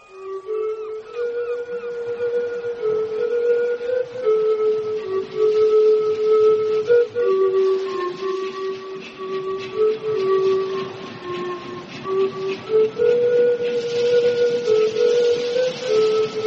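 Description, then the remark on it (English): Pipes play a steady, reedy melody as a calling to summon others, sustained notes sliding between a few pitches over a continuous droning tone, loud and unbroken for the whole stretch with no voices. “My breath to the pipes to bring them all here.”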